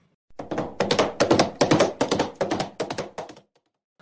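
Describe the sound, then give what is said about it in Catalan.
Galloping horse hooves beat out a quick, steady clip-clop rhythm for about three seconds, hard hollow thuds in repeating groups, with no voices over them. “Es va acostar a la cova del drac, molt a poc, quan de sobte es va començar a escoltar el soroll d'un cavall a galop.”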